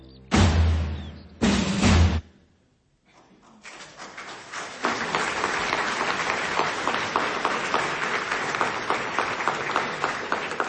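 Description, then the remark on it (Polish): Two short loud bursts of sound open, then after a brief lull an audience at a play staged by the Wyższa Szkoła Kultury Społecznej i Medialnej breaks into sustained applause, many hands clapping steadily at moderate volume until the end. “A te brawa to dla, brawa oczywiście dla wszystkich współtworzących Wyższą Szkołę Kultury Społecznej i Medialnej, bo jak każdy dołoży swoją cegiełkę, swoje umiejętności, rozwój swoich talentów, wówczas można rzeczywiście zrobić prawdziwe universitas,”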